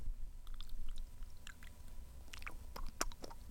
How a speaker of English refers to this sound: That was a good sip.